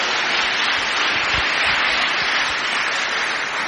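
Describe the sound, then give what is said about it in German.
A crowd applauds steadily for a visiting theology student doing an internship, a dense wash of clapping hands that holds at an even, fairly loud level for several seconds with no voices over it. “Ja, das ist auch ein Applaus wert.”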